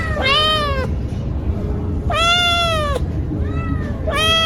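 Several high-pitched kitten meows follow one another, each drawn out and insistent, over a low, steady background rumble; the kittens Sheldon, Ranger and Leonard.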